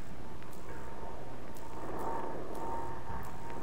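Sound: airplane engine running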